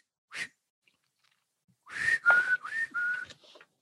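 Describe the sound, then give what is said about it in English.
A person on the deck of a boat on the open sea whistles a quick single note, pauses, then whistles a breathy little tune of four or five sliding notes, moderately loud, with no talking. “Hey, it's bad luck to whistle on deck.”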